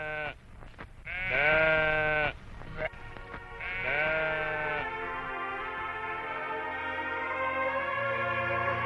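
A sheep bleats loudly, a couple of long wavering baa calls in quick succession, followed by a lower, steady drone in the background.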